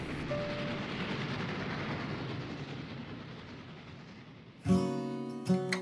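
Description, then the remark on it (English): Steady, dense rumble and hiss of a moving train heading to the ski town of San Moritz, then two loud tonal horn-like blasts near the end, the second short. No one speaks. “You join me today as we board the train heading off to San Moritz.”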